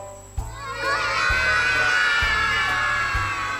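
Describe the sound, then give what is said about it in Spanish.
A group of children hoot together like an owl, a loud, sustained chorus of overlapping high voices that starts suddenly and holds steady for several seconds. “Exploradores, ¿imitamos al búho?”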